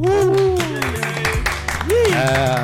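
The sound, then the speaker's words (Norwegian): A burst of applause with scattered claps, heard over a loud tonal backing with a steady thumping bass line and swooping voice-like tones. “Få en applaus.”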